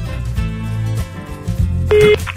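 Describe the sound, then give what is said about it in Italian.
A short electronic telephone tone from a phone call being dialed, like a ring or dial signal, sounds once near the end, clear over a steady bed of background music with no talking. “Intanto c'ho un minuto di tempo da quando ci risponderanno al telefono per far dire bicicletta.”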